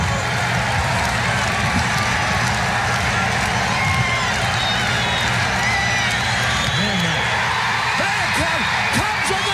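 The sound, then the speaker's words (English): A large crowd cheers in a steady, loud roar, many voices blending into a continuous wash of noise with occasional whoops and shouts rising above it throughout. “Listen to those crowd. Might as well join them.”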